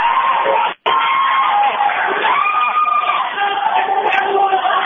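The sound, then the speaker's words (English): A basketball crowd at Chicago School cheering during free throws in the first game, in a loud, steady roar, with shouts and shrill yells rising above it, nearly unbroken for about five seconds apart from a brief dropout near the start. “Here in Chicago School, crowd into it.”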